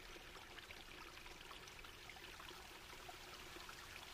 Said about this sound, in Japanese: あ、ちょっと音がするかも。ほら、こっち来て。ザーって、水の音しない？